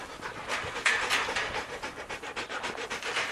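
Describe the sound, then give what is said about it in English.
A highly trained border collie working dog from a cattle farm in Central Queensland, Australia, pants hard in quick, rhythmic breathy huffs, a steady run of short airy bursts with no voices over it. “Highly trained dogs are helping to fill these labour gaps for farmers.”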